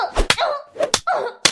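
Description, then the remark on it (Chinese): Three sharp, loud slaps strike a person at uneven intervals, each a crisp smack. Between them, a voice makes drawn-out, wavering vocal sounds with no clear words. “婊子最喜欢被主人虐，被主人打了。”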